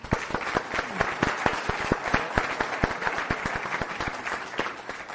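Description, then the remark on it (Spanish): An audience at a meeting applauds after a presentation about the unit, steadily for about five seconds, dense overlapping claps forming a continuous crackling wash with a few sharper individual claps standing out. “Démosle otro aplauso, compañeros.”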